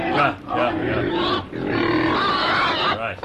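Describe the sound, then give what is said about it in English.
Loud pig grunts and harsh squeals run almost continuously for a few seconds, overlapping one another with only brief dips between bursts. “Shut up, I'm talking to the pigs, Google.”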